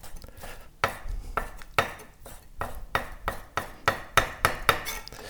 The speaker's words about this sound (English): So now you're just dicing the raw salmon. Yes. The small dice.